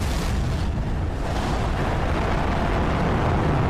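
A dense, roaring cosmic explosion effect rumbles continuously at steady loudness, a broad wash of deep boom and hissy noise with no talking over it.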